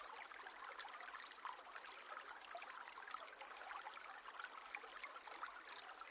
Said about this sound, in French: Le chant de la rivière ravit vos oreilles et se mêle au gazouillis joyeux des oiseaux.